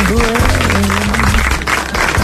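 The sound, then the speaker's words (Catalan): An audience applauds in a dense, steady burst of clapping that stays loud throughout, with a few voices calling out underneath. “Un aplaudiment per l'hora.”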